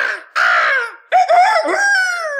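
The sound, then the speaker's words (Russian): A voice imitates a crow's cawing: a harsh, loud caw, a brief pause, then a longer, strained, wavering cry held close to the microphone, with no other sounds around it. “Старуха кричит, как ворона.”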